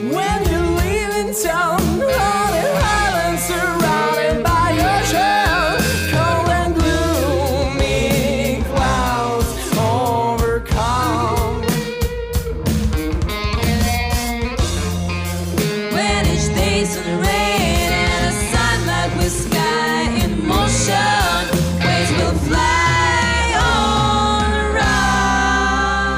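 A full rock band from Minsk plays a track from its second album, with steady drums, thick guitars and bass, and a melodic sung vocal line running over the top, loud and continuous throughout.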